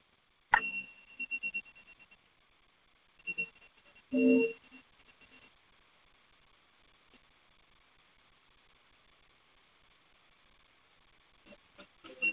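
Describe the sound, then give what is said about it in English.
An awakening bell used in meditation is struck a few times early on, its clear ringing tone lingering and slowly fading into near silence before a soft final strike at the end. No voices. “To hear the bell to awaken.”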